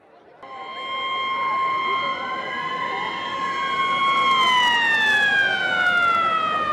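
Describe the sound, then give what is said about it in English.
Loud, sustained siren wails with steady tones that slowly slide in pitch, layered over a constant rumbling roar, starting abruptly and continuing throughout, as a Shriners motorcycle group comes down a hill to start a street parade on Main Street of a small town. “It started with sirens and a roar, as the Shriners Motorcycle Group came down the hill and performed spectacular maneuvers and weaved their way through each other.”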